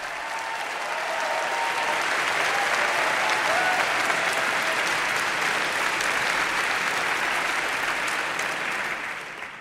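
crowd, audience applause welcoming guest

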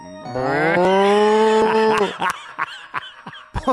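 animal, cow mooing

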